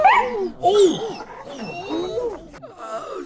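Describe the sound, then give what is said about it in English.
A dog turns, leaps and bites hard, snarling with rapid, loud bursts of strained, whining growls and yelps packed into a few seconds, with no one speaking. “The dog turned, leapt, and bit hard.”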